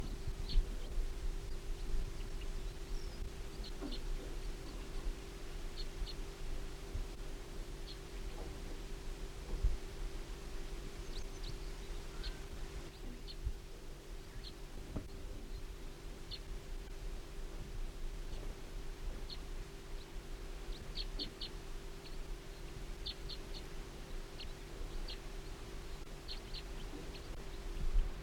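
bird, wild bird singing

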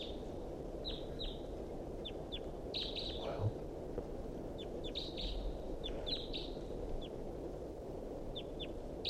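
bird, wild bird calling weakly

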